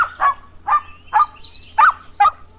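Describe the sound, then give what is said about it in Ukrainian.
A small poodle yaps five times in a steady, evenly spaced series, each bark short and high-pitched, with faint bird chirps twittering in the background. “«Ой, це той набридливий собака!» – упізнав маленького пуделя.”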